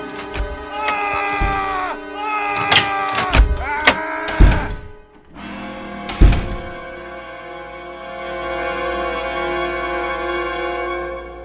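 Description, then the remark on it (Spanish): In a radio story, a door creaks open by itself at 4 in the morning with a long, wavering, high-pitched groan, punctuated by several heavy thuds, then settles into a sustained droning creak that slowly fades. “La puerta se abrió sola y salió Frankenstein.”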